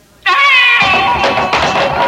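An eerie banshee wail bursts in abruptly as a picture rocks on the wall: a loud, high-pitched, sustained scream with a wavering, cat-like quality, holding for about two seconds with no talking.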